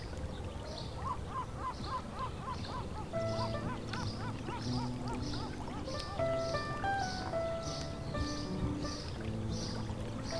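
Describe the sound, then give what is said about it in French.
Many birds call together at the water's edge at dusk, a dense chorus of repeated chirps, quacks and warbling notes over a low steady murmur of water, continuous. “Les oiseaux commencent à s'endormir.”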